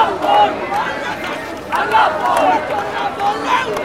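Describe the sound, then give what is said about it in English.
A marching crowd at a non-political march in Kolkata chants in loud, repeated bursts of shouted voices, led by a television actor wearing a bandana, whose voice rises over a steady wash of crowd noise and chatter. “A television actor with a bandana around his head leads a chant.”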